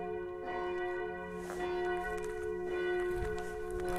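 A deep, dark church bell, switched on electrically, rings out in a slow, sustained toll calling people to a funeral, its long humming overtones decaying between strikes, with no voices present.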